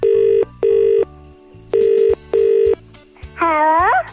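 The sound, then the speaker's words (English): A phone line rings out in two double-ring bursts, steady electronic buzzing tones with short gaps, followed by a brief warbling, sliding tone as the call connects. No one speaks. “Are you ready to give him a phone? Yes, I'd like to speak to Kyle. Right, Kerry, dial the number.”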